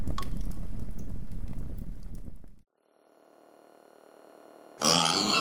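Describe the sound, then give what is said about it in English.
A loud, rough run of low, rapid pig-like grunting and oinking from a hacking device called Book, set off as its defense mechanism, which cuts off into a quieter, steady buzzing hum before a sudden harsh burst of noise. “Book! Stop oinking!”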